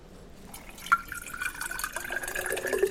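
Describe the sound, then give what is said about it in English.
Water runs and trickles steadily from a water fountain, with a small splash or drip near the start and a continuous bubbling stream that builds slightly; no one speaks. “Drink more from this water fountain.”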